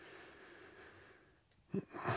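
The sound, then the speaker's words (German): A speaker breathes heavily: after a quiet stretch with a faint steady tone, a sharp breath and then a longer, rougher exhale push through, with no talking. “Also Sie hören mich atmen, Sie hören mich atmen.”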